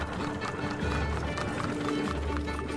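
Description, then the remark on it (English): Horse and carriage hooves clip-clop in a steady, quick rhythm, mixed with a rolling rumble of wheels and a low hum throughout. “And so they escaped in their horse and carriages.”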